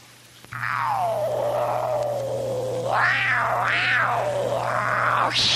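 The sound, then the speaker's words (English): A black cat lets out one long, drawn-out meow that wavers and rises twice in pitch over about five seconds, loud, with a steady low hum underneath. “A pretty black kitty cat. Such a nice kitty cat.”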